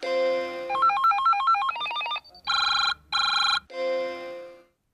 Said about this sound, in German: So ein Sound vielleicht von einer Nachricht oder sowas. Genau, wenn eine E-Mail reinkommt